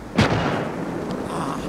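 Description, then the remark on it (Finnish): A single loud, sharp gunshot cracks out early, fired at a fleeing figure, followed by a dull rumbling tail and steady background noise, with no voices. “Ampukaa perään!”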